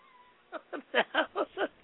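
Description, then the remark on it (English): A sound-effect dog barks six times in quick, even succession, each bark short, high and oddly whiny, fairly loud after a brief quiet lead-in. “That's a hair lip dog.”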